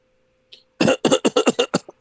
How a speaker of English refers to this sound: Yeah, no. We're communicating over here via Morse code via our coughs. Sorry about that, Chief.